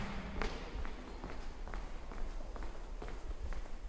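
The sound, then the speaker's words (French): Steady footsteps of a person walking a few steps at an even pace, about eight distinct steps with crisp heel strikes, over a low continuous background rumble and no voices. “Je marche quelques pas et la tourne sur ma gauche pour trouver l'entrée du fameux Labix.”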